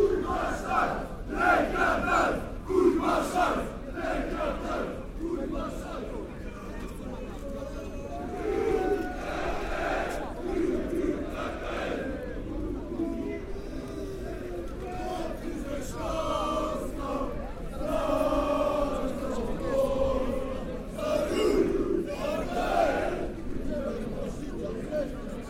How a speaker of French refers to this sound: Sur le quai de la gare, de nombreux CRS et une foule criant avec violence.